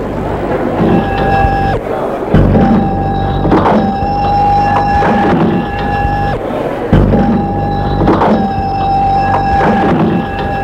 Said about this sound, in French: La porte du café s'est ouverte et entre un homme grand, fort, cheveux gris, habillé d'un pull gris et d'un pantalon bleu.